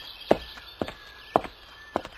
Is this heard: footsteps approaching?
yes